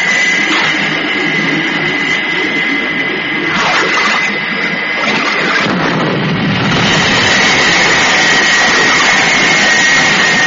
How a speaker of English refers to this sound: As the huge rescue craft roars away, explosions start to break out all over the giant tanker.